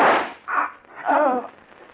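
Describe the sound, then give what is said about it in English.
A single sharp gunshot, fired by one of two men hijacking furs upstairs, cracks loudly at the start, then trails off, followed by a short, wavering vocal cry or groan. “who shot you?”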